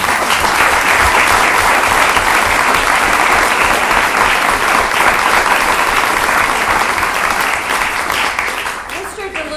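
Steady, loud applause from a large audience, a dense crackle of many hands clapping that holds for several seconds and tapers slightly at the end.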